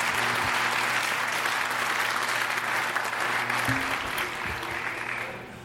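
An audience claps steadily for several seconds, a dense wash of applause that stays loud throughout and begins to thin out near the end.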